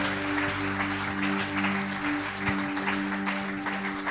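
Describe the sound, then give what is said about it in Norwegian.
A crowd claps steadily throughout, applauding heaven, a dense wash of many hands with a steady low hum underneath and no voices standing out. “Skal vi gi himlen en applaus? Disse en applaus samtidig.”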